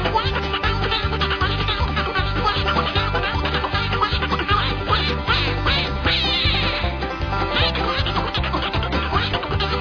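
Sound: imitated duck quacking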